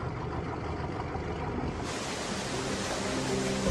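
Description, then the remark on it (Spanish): Powerful pumps start up and slowly pump water out of a dry dock holding a Typhoon-class submarine, roaring steadily with a dense rushing of churning water over low mechanical rumble; about halfway through the sound brightens and swells as the flow grows stronger. No voices. “Las potentes bombas arrancan y lentamente empiezan a bombear el agua fuera del dique seco.”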